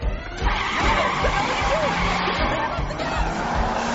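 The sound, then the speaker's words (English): Engines rev as cars pull away, tires skidding and squealing in a dense, continuous wash of noise, with a faint murmur of voices in the background. “The cars are going.”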